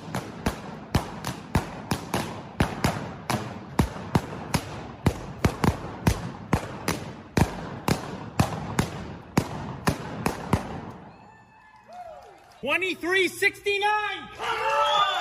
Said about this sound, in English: Hey, there's a new Guinness World Record for the fastest time to pop 100 balloons using only your feet. What's it sound like, you ask?